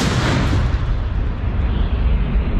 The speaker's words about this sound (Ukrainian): Постріл!